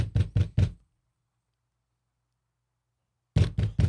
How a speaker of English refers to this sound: So I go, oh, finally, knock on the door.